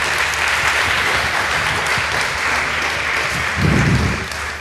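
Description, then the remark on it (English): Sustained audience applause welcoming a speaker fills the whole stretch, a dense, steady wash of many hands clapping, swelling slightly near the end before beginning to taper. “Please give him a big round of applause and say welcome.”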